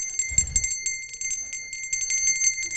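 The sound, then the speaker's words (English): A small pink hand bell rings continuously in quick, jangling shakes, bright, with a low thump near the start and no voices. “Oh, I got me a little pink bell.”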